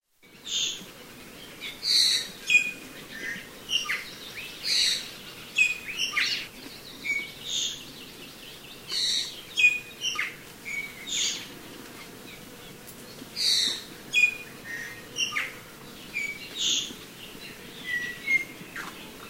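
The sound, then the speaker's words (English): Harsh, strident bird calls repeat in quick bursts, loud and raspy, over a steady low background hum of forest ambience. No one speaks. “The ivy seems to dominate the forest with these kinds of sounds, rather harsh, strident.”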